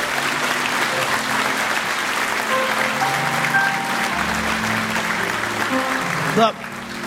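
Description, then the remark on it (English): An audience at a church service claps steadily for several seconds, a dense, even wash of applause with faint voices mixed in, ending with a brief louder burst before fading. “That deserves a clap.”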